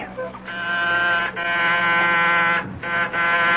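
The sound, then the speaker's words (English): A harsh, loud electric door buzzer at apartment 10B of 98 St. Regis, a luxury high-rise, sounds in several long presses with brief breaks between them, a steady rasping tone with bright overtones, over a low background hum. “Who is ringing?”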